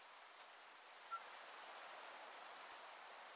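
A zebra finch's heat call, made by a parent sitting on its eggs as temperatures rise above 84 degrees: a rapid, steady string of thin, very high-pitched peeps, repeated about five times per second, fairly quiet and with no voices.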